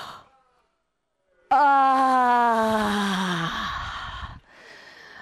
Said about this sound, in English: But I'm going to ask you all simultaneously to yawn. So big stretch, big mouth open, yawn, yawn.